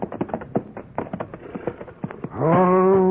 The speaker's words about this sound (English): Hey, look at all them horses at the hitching rail there. Looks like they get a passel of company,